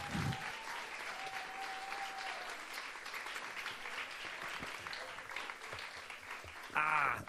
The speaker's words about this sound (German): Ein großer Applaus für das Wunderbärchen